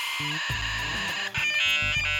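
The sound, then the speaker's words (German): A dial-up modem connecting: shrill, steady electronic tones and buzzy hiss that switch abruptly between segments, fairly loud and continuous with no voices. “Und das, wenn ich in meinem Kinderzimmer telefoniere, meine Mutter aus dem Wohnzimmer ruft, leg jetzt mal auf, ich will ins Internet.”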